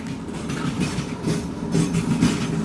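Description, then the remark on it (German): A train on the Trans-Siberian line rolls steadily along the rails with a low, continuous rumble and periodic surges of clattering wheel noise, with no voices present. “Der Blick aus dem Zugfenster.”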